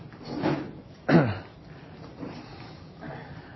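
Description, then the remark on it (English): A couple of chairs are shifted and set down in front, two solid clunks with a brief scrape, followed by softer shuffling and faint murmur. “So let's put a couple of chairs here in front.”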